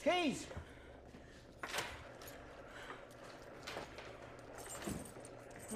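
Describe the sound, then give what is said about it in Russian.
Keys for opening a cash register jangle and clatter in short metallic bursts, with a sharper rattle partway through and another near the end, over a busy room tone, a brief voice cutting in at the start. “Ну как, ключи нужны? Ключи!”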